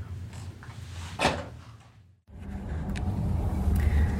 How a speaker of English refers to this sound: All right, here we go. Recorder is on. We are here in a car